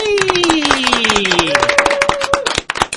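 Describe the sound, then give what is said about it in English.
A burst of dense, rapid clapping from an audience, steady and fairly loud for about three seconds, with sliding whoops or whistled cheers sounding over the applause. “Applause is needed.”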